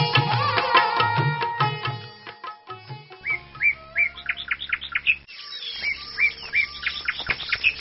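Birds chirp and tweet continuously outdoors in a garden, several overlapping calls with quick repeated trills and whistles, clear, with no voices present.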